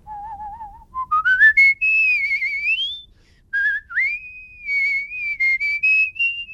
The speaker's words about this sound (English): A few years ago, I met a college student who was actually one of the world champions of whistling. Did you know there are whistling champions? He has some good tips on practicing how to whistle.